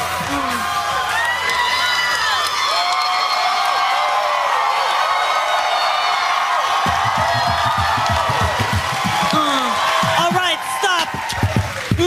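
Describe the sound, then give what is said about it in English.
The large studio audience of James Corden's late night show cheers and whoops loudly for about twelve seconds as Rebel Wilson and David Schwimmer face off in a rap segment, many overlapping voices rising and falling, with clapping mixed into the steady roar. “Enough of this clapping.”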